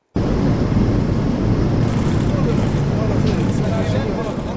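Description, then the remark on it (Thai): A loud, steady roar of an airplane engine fills the whole stretch, starting abruptly and holding a dense, continuous rumble with a broad hiss on top. The plane carried Arab leaders to Riyadh, Saudi Arabia, last weekend, ahead of a summit in the United States. “เสียงเครื่องบินที่นำผู้นำประเทศอาหรับเดินทางมากรุงริยาดของซาอุดิอาระเบียเมื่อปลายสัปดาห์ที่แล้วเพื่อเตรียมตัวก่อนการประชุมสุดยอดในสหรัฐนะครับ”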